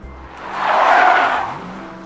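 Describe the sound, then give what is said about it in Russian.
A car brakes hard near a bus stop, its tires letting out a rising, hissing screech that swells for about a second and then fades as the vehicle slows to a stop. “Мимо проезжали многочисленные авто, и только одна машина неожиданно притормозила возле остановки.”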